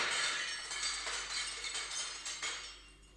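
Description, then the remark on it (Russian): Mirror glass shatters in a bright crash in a workshop, followed by a few seconds of scattered tinkling shards that gradually fade. No voices are heard. “Что это за шум в мастерской? Неужели кто-нибудь опять разбил зеркало?”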